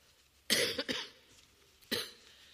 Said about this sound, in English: I'm hoping I'm not going to cough too much. Excuse me.